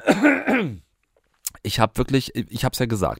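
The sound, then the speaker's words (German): A single short, rough throat clearing from a man with a fever and a cough, followed by a brief pause and then a man speaking. “Ich fiebere hier vor mich hin und habe einen Husten im Gepäck heute.”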